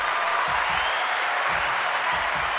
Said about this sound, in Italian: Abbiamo qui con noi e la accogliamo con degli applausi strepitosi